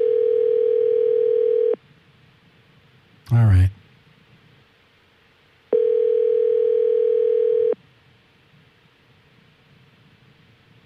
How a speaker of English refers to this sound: Mm-hmm. That's good. Good dial tone.